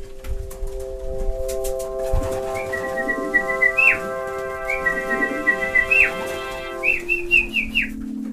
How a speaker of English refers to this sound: shouting and whistling to keep them airborne, because that's their training. And these guys around the neighborhood would see me sitting on the roof with my flag, and that's calling these birds.